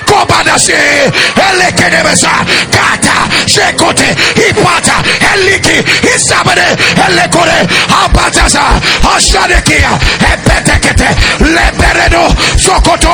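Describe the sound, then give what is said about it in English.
A large audience screams and shouts together, a loud, dense roar of many voices that holds steady throughout, with rhythmic low thumps pulsing underneath in the second half. “Somebody scream, say, I am done with this level.”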